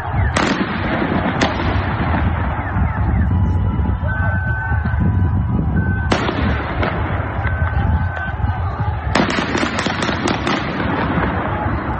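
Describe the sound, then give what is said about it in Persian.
Gunfire on a city street in Iran on a Monday during protests against a petrol price rise, amid heavy security forces: a few sharp, loud cracks spread apart, then a quick cluster of shots, all over a constant roar of crowd and street noise with a brief high tone. “در شهرهای مختلف ایران در روز دوشنبه فضا به شدت امنیتی بوده و گزارش ها از حضور پرشمار نیروهای امنیتی از واحدهای مختلف نظامی حکایت داره و صدای تیراندازی هم شنیده می شده.”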